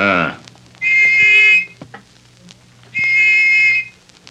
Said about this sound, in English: took the little brass whistle which he had received from the dying government agent from his pocket. At frequent intervals, he blew it